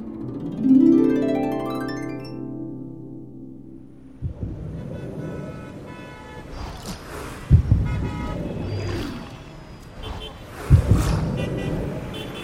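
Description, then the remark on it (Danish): A rising, swooping tone opens into dense, busy traffic ambience: steady engine rumble with honking horns and a few sharp bumps, loud, continuing for several seconds. “Wow, sikke en voldsom trafik her. Jeps, vi er simpelthen havnet i blodbanen.”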